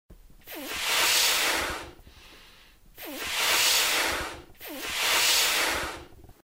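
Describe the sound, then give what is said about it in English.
A balloon is blown up in three long, breathy puffs, each opening with a brief rubbery squeak and separated by short pauses. The rushing air is steady and fairly loud, with no talking. “Do you know what this is, Ozzy? It's a balloon. Now, if I blow it up...”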